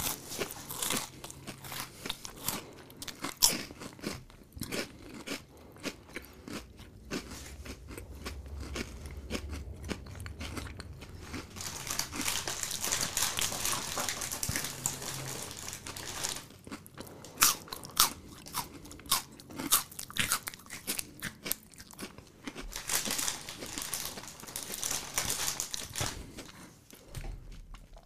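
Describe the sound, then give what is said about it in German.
Loud crunching and chewing of crisp food right at a microphone, with dense irregular bites and crackles continuing steadily for nearly half a minute, no talking. “Eine Minute kauen wir jetzt nur vom Mikrofon.”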